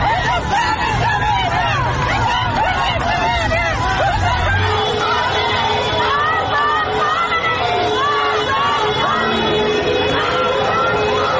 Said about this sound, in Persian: معترضان در بوکان علیه رهبر جمهوری اسلامی و عوامل سرکوب شعار دادند.